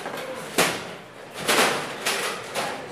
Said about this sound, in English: The sounds of chairs being cleared away. Ready for phase two after the Two Good Boys podcast.